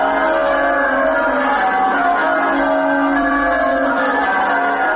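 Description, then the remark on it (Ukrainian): Church bells in Windsor, Britain, ring continuously in a dense, overlapping peal, their tones blending into a steady resonant wash that fills the whole stretch, fairly loud and with no voices present. “Якраз мій колега побував у Вінзорі і записав дзвони тамтешні. Послухаймо їх.”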